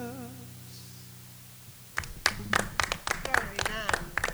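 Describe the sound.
A sustained musical note ends a sung performance, then a small group behind the camera breaks into applause: a quick, uneven patter of hand claps, fairly loud, lasting a couple of seconds with faint voices mixed in.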